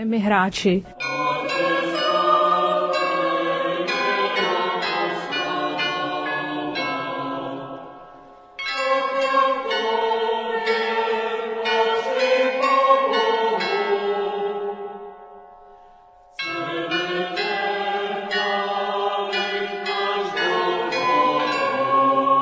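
The carillon bells of Notre-Dame de Lorette ring out a melody in three long phrases, dense overlapping metallic tones with shimmering overtones, briefly pausing between phrases, played fairly loud with no voices.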